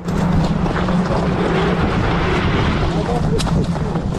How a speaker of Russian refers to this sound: Истребитель заходит. Истребитель заходит? Горячий. Это российская? Наша? Да, российская.